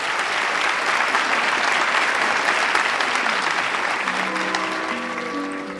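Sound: audience applause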